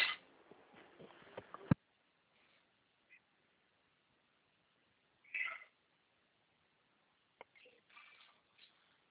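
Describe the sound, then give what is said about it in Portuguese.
A cat meows a few times, with a clear meow midway and fainter ones near the end, after an opening stretch of clattering household noise. “Miau, miau. Mas já sobe, já vai. Miau, miau.”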